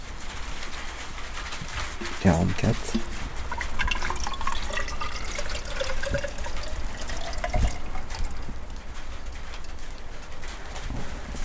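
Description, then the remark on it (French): Rainwater is poured into a graduated measuring test tube to measure rainfall, about 35 mm so far, trickling and splashing steadily, with a faint tone that slowly rises in pitch as it fills, and a few sharper clinks and drips along the way. “J'en suis à 35 mm de pluie, et il en reste encore un peu.”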